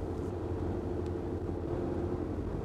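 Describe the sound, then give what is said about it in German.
A car speeds along with a steady, heavy engine and road rumble that holds constant and loud throughout, with no voices or other sounds breaking through. “Mann, so schnell war ich noch nie in einem Auto.”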